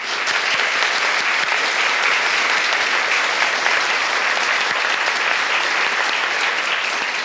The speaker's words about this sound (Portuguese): E eu vou pedir, porque eles trabalharam muito. Vamos aplaudir os bons espíritas.